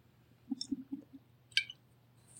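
person drinking water

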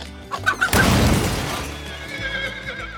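horse neighing

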